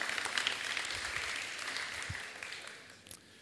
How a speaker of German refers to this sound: Es klingt wie die Frauen klatschen, weil die Männer sollen das machen oder umgekehrt, ja.